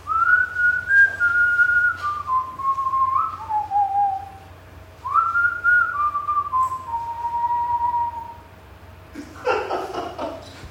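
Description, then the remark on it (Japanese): A whistling firework going up in a fireworks video background sounds twice, each shrill tone sliding gradually downward in pitch over a few seconds, and a brief crackling burst follows at the end, with no voices. “花火が上がっております。”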